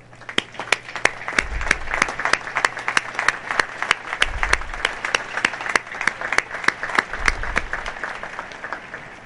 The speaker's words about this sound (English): Please join me in recognizing and applauding these distinguished graduates.